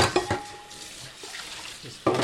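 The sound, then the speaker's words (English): Dishes clink and rattle over running water at a sink as a man loads the morning's breakfast dishes into a dishwasher, with a few sharp knocks at the start and a louder clatter near the end. “Takashi has a full, dirty sink in front of him”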